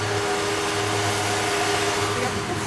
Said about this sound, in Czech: Je 8 hodin večer a obytnou částí Ostravy projíždí po tramvajových kolejích opravdu zvláštní žluté vozítko. Šlehají spod něj jiskry. Je to brousící vůz, který se stará o to, aby to tramvajím po kolejích dobře jezdilo.